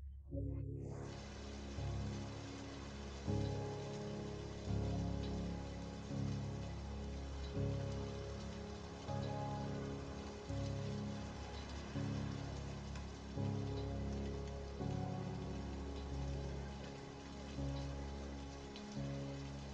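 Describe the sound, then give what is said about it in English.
Steady rain falls without pause, a dense continuous hiss of drops on a hard surface, with a low rumbling undertone that swells and eases in slow waves. No voices. “Soon you find a tunnel to take shelter in, and as you watch the rain fall without ceasing.”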